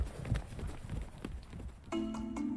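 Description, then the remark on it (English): Horse hooves clip-clop in a steady rhythm as a rider heads back to Topeka, then a sustained humming tone joins near the end while the clopping carries on. No one speaks. “So Curtis packs up his things in a flour sack, gets on his horse, and rides back to Topeka.”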